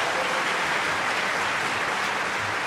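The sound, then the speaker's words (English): A crowd applauds steadily for a few seconds, welcoming a guest on a Heritage Radio show, a dense, even wash of many hands clapping at once, fairly loud, with no voices standing out. “I had all the applause died down for a second.”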